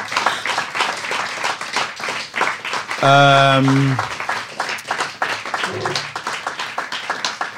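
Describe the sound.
An audience applauds with many hands clapping in a dense, steady patter that lasts the whole time. About midway, a single voice lets out a brief, sustained tonal cheer over the clapping.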